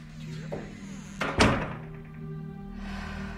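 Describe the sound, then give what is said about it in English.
A bathroom door swings shut with a solid thunk, one firm close, with a faint latch click just before it and a low steady hum underneath. “Celeste walks into the bathroom and closes the door.”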